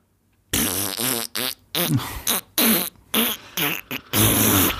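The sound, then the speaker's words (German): A rapid string of about eight loud, buzzy fart noises of uneven length, their pitch wobbling and sputtering, with brief gaps between bursts and a longer final blast, played as the opening of a show. “eine Eröffnung sich auszudenken, die nicht mit Kacke zu tun hat”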